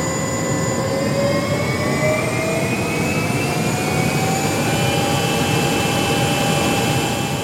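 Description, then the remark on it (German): A new ABB train power converter being tested in a power lab at a factory hall in Thurgau, Switzerland, during a simulated train ride at about 40, then 80 km/h. It hums steadily under a dense roar, with several high electronic whining tones slowly gliding upward in pitch, loud and continuous, with no voices. “Techniker haben den neuen Stromrichter getestet und haben im Leistungslabor eine Zugfahrt simuliert.”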